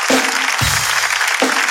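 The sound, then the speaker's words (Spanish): Loud, sustained applause for the audience of the show Tengo Algo Que Decirte, a dense wash of clapping that carries steadily through the whole moment, with a few brief low bursts of crowd noise underneath. “Un fuerte aplauso para el público.”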